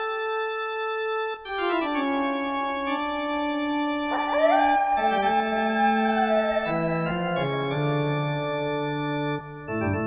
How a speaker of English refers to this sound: I love that sound. Sound of a wolf in the middle of the night.